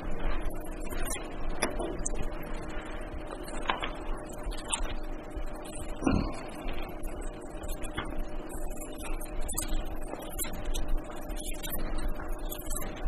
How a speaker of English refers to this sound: Like I heard a pastor say, it's beautiful hearing them pages turn.